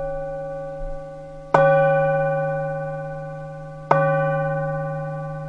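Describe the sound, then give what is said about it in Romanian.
Resonant radio station time-signal gong strikes marking the exact hour ring out alone, one sustained tone decaying before a second sharp strike about two seconds later, each with a long shimmering tail of harmonic overtones. “A fost așa, semnalul postului, apoi ora exactă, la al treilea gong va fi ora 20.”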